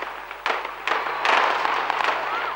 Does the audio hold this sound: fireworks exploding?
yes